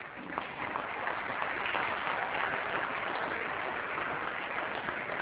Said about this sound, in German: Herzlichen Dank den drei Rednern nochmal. Ich glaube, Sie haben einen Applaus verdient.